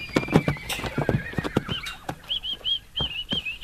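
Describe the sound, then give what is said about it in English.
A Brumby horse whinnies in a series of high, wavering calls while hooves clop unevenly, sharp percussive steps dominating the first half before the neighing carries on alone. “I just see a horse down there that wants to say hello.”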